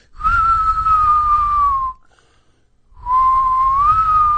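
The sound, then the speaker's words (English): A person whistles two long, sustained notes that slowly bend and waver, separated by a second of silence, with a steady low rumble beneath, imitating an eerie, haunting whistle. “I'll try and simulate it here.”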